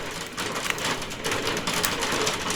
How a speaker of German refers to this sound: Ich hoffe, das ist nicht zu laut bei dir. Ja, das ist der Regen, oder? Ja, genau, es ist gerade Hagel. Und ich sitze unterm Dachfenster.